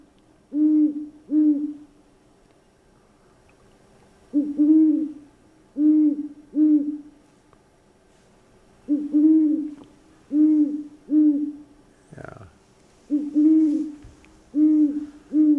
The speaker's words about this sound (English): Definitely a great horned owl. Yeah, soft and mellow. And yeah, very nice.